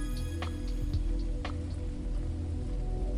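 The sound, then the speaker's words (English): Steady patter of rain with scattered sharp drips and faint crackling sizzle, over a low continuous rumble; no voices, even in level throughout. “as you hear the small singe of the burning clear rain”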